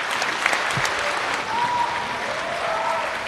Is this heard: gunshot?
no